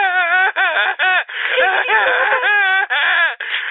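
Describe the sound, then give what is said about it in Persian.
A person cries and wails loudly, in long quavering sobs with rising and falling pitch, broken by brief gasping pauses, with no other talk. “از دست من گریه کن و از این گریه کردنت ببین.”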